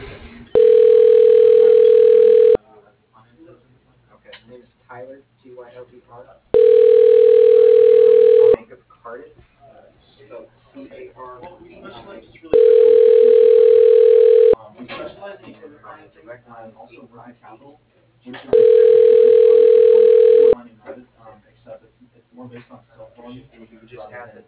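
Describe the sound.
A telephone ringback tone sounds four times as an automated phone directory connects a call, each steady, mid-pitched burst lasting about two seconds, evenly spaced with pauses. Faint talking fills the gaps between rings.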